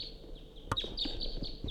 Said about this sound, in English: Quite a few wild crossbills coming around.